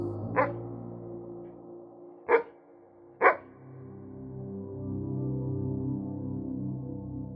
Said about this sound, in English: Sometimes the dog barks.